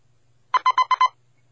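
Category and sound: signal or alarm, telephone ringing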